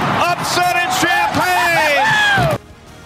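A radio broadcaster screams in loud, wavering bursts over a roaring, cheering crowd for about two and a half seconds as Wisconsin kicks a game-winning field goal to beat Illinois 24-23, then everything cuts off abruptly into near silence.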